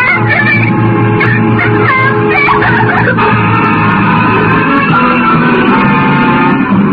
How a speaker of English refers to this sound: And she reached over and put her hand on his back. And suddenly she was screaming.